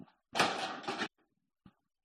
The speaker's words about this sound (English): So, I can... Hold on a second. I got to get through the door.